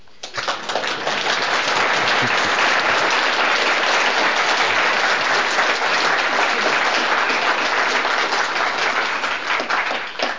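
A crowd of people applauding steadily for about ten seconds, a dense, even wash of clapping that starts abruptly and stays loud throughout, with no voices over it.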